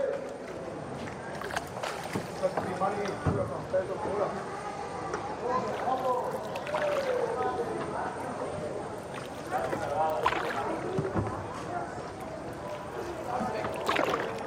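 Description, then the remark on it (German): Gentle lapping water and the knock of small boats on a canal in Venice, Italy, with several people chatting in Italian in the background throughout. “Wenn ihr mich fragt, das ist ein Kanal. Also sowas wie ein Graben mit Wasser drin.”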